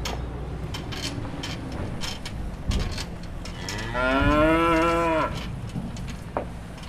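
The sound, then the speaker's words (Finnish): A cow lets out one long, drawn-out moo, fairly loud, rising then falling in pitch. Scattered clicks and knocks and a low rumble fill the background before and after. “Mutta lehmät ei kyllä kuulu nyt siihen enää, tai naudat, että ehkä kasvipuolelle.”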